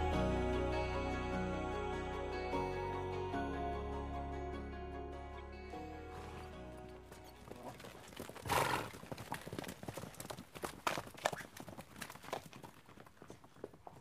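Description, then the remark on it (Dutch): A horse-drawn carriage clip-clops along, steady hoofbeats rising in rhythm after a sustained tonal opening, with a horse whinnying amid the rattling clatter. “De collage maakt de kijker in ieder geval enthousiast voor een ritje in die koets door het Den Haag van toen.”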